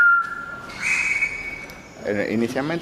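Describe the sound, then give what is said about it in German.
A green parrot in the patio of a house in Old Havana, Cuba, greets the restorer on the first floor: it whistles two long steady notes, the second higher, then breaks into a burst of squawky, warbling chatter. The calls are loud and clear, with no people talking. “Im Patio des Hauses grüßt ein grüner Papagei den Restaurator aus dem ersten Stock.”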